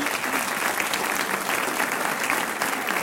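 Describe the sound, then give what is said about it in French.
Sustained applause from a crowd applauding and wishing good luck to a game participant, a dense, steady patter of many hands clapping at even loudness throughout, with no voices standing out above it. “On vous applaudit aussi et on vous souhaite bonne chance pour le jeu.”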